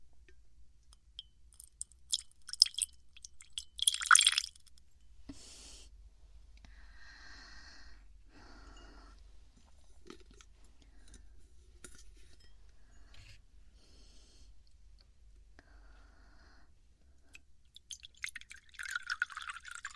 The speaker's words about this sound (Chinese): 那给你倒杯白开水吧。